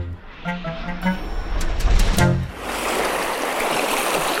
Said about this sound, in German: Um zu ihm in die Forschungsstation zu kommen, musste ich erstmal einen kleinen Fluss durchqueren.